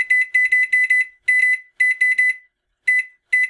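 Clear electronic beeps from appliance buttons being pressed, fired in quick uneven bursts with short pauses between, fairly loud, with no voices.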